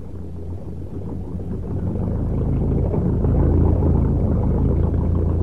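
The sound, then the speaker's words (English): A boat engine, started to get the moored boat underway, turns over and settles into a steady, low, throbbing rumble, swelling a little at first and then holding an even drone with no voices. “I'll get to the engine.”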